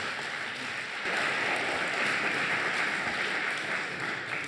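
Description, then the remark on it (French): Steady applause from the live audience of a radio show, welcoming the guests: a dense crackle of many hands clapping at once that swells slightly after the first second and holds evenly, with no voices over it. “Merci en tout cas, applaudissements pour nos invités s'il vous plaît.”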